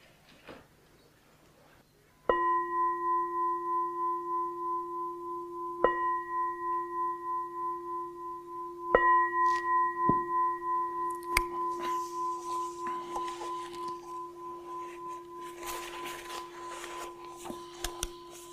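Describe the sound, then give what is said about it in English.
A meditation bell is struck several times, each strike setting off a clear, sustained ringing tone with a gentle wavering shimmer that lingers and slowly fades. No one speaks. “I'm going to invite the bell.”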